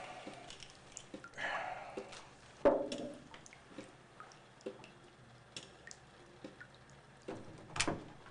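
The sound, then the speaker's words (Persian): Water drips from a tap in irregular, scattered drops, mostly soft, with a couple of louder splashy plinks standing out against the quiet. “حالا دو قطره آب از این شیر بچه که مملکت زیر رو میشه؟”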